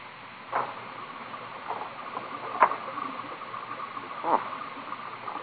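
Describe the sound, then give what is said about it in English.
Three slow, evenly spaced knocks on a door, each a short sharp thud, heard against a faint steady background hiss with no one speaking. “I could have sworn I heard someone knock at the door.”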